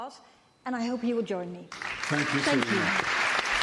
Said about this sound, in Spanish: Les pediré que aplaudan después. Este equipo merece ser celebrado y merece ser escuchado. Les voy a dar de nuevo un gran aplauso y espero que se unan a mí.